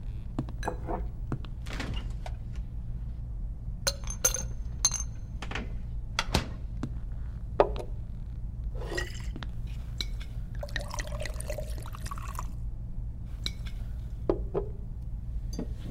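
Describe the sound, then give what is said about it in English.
Liquid splashes and trickles as a drink is poured into a glass, with sharp clinks and taps scattered throughout over a steady low hum, with no one speaking. “How about we start with a glass of whatever that is?”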